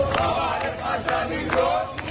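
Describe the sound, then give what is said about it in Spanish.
A large crowd in Damascus, Syria, chants and shouts in celebration, some chanting slogans for al-Sara, the country's new president; many voices blend into a loud, steady roar with rhythmic bursts of cheering rising over it. “Aquí en Damasco suena la fiesta, se escuchan muchos fuegos artificiales, pero lo cierto es que ese ambiente se ha ido caldeando en los últimos días.”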